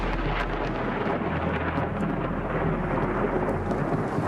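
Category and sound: nature, thunder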